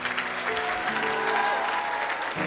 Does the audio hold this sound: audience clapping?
yes